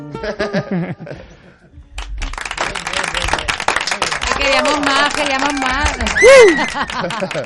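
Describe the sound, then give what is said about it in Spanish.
A song's last sung note fades, then dense applause breaks out and keeps going steadily, with a voice calling out over the clapping and a brief whoop near the end. “Se oyen aplausos por ahí, que no se salen esos aplausos.”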